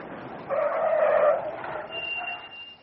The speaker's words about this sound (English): I stepped into the middle of the road and held out my arm. Almost immediately, a car came to a halt.